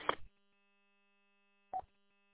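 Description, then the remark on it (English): A telephone rings in two short bursts separated by a pause of over a second, with a steady low electrical hum continuing underneath. No one speaks. “I'm getting a phone call.”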